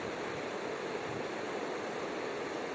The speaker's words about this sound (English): The river looks great. It's just huge foam. It's moving so fast.